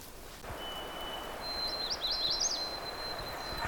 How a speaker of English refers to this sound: Sort of trying to pursue that magnolia song, but it just keeps getting further away from me as I plunge through the woods, so. And there's some wind, too, that's complicating it. That's him.